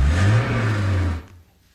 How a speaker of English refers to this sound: 2-liter Alfa Romeo spider engine. Bullseye. Bullseye! Bravo, you know, for a moment there, I thought it was the 3-liter.